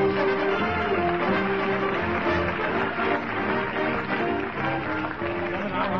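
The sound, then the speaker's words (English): A loud, steady roar of a large crowd of belated shoppers at the Bon Ton department store, many voices blending into a continuous din with a few sustained tones running through it for about six seconds. “And here, squirming and elbowing his way through the mob of belated buyers at the Bon Ton department store, we find Fibber the Crowd Roars McGee.”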